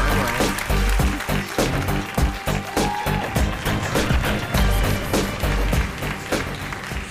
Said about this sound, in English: Come on. Applause.